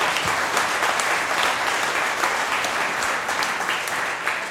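Steady applause from an audience, a dense wash of many hands clapping at an even, fairly loud level throughout, with no voices standing out.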